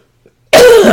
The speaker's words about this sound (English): Let me cough really quick. Well tested.